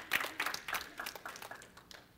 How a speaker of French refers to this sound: Donnons-leur une main d'applaudissement en même temps.